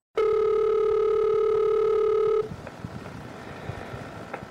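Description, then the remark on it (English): A telephone line rings with one loud, steady electronic tone lasting about two seconds, then cuts off into faint line hiss and background noise. No one speaks. “This is a phone call”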